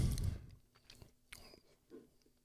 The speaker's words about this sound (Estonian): No nii, esimene lonks on võetud.